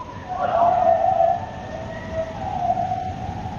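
A pack of coyotes in the evening, heard from a house in Oregon, US, howls in long, wavering, high-pitched tones that slide and overlap, with one strong burst followed by a second, softer rising chorus. No voices are heard.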